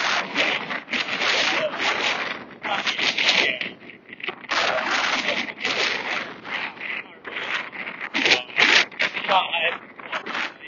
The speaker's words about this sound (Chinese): 对，大家可以听到当时这个风声非常的大，因为当时风非常大，所以海里边一个人都没有